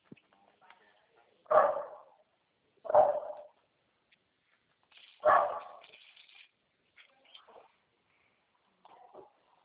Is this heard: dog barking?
yes